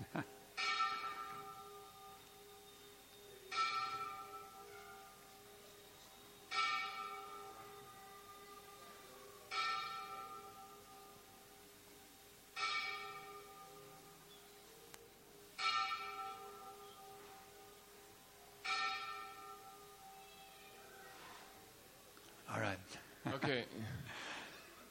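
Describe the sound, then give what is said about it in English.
A large bell tolls slowly and steadily, about seven strikes spaced roughly three seconds apart, each ringing out with a long shimmering decay, followed by a brief burst of noise at the end. “Wait till the bell's over, because I'll never be able to hear you over the bell.”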